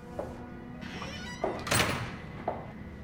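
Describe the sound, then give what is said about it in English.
The door to a stairwell opens with a short, breathy scrape, framed by a few soft knocks and thumps against a low, steady background hum. “She opens the door and edges into the stairwell.”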